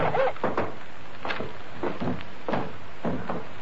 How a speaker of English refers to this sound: Can you keep that door shut behind you? It's rather cold.